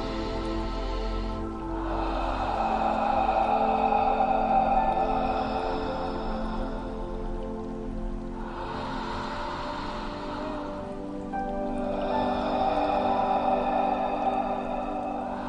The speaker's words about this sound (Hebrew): אנחנו מפעילים עכשיו נשימה מעגלית. מומלץ לשאוף את האוויר דרך האף ולנשוף דרך הפה. זה יישמע כך.